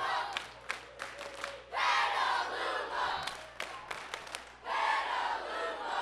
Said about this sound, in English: Yesterday afternoon, the Petaluma National All-Stars won their first game of the Little League World Series to the rousing delight of friends and supporters.